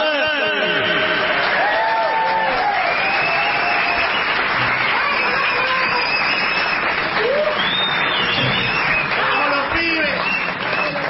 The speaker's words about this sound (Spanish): su aplauso para recibir a la trompeta dorada.